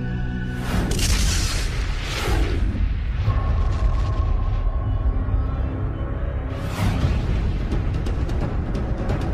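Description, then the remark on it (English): A deep, thundering explosion sound effect representing a gamma-ray burst: a continuous low rumble with several heavy blasts swelling up, around the start and again later, loud with no voices. “Can you imagine what sort of explosion that was?”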